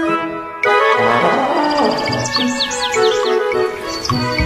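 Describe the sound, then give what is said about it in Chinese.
A loud, brassy elephant trumpet blasts in suddenly and holds, then a quick series of high, bright sparrow chirps flits over it. “我有一只大象，真可爱，它长长的鼻子咻咻咻，有只小小麻雀啾啾啾，它每天都在飞，它们是我的好朋友。”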